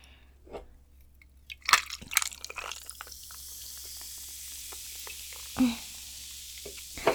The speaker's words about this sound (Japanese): ちょっと氷の音がうるさいかな。大丈夫かな。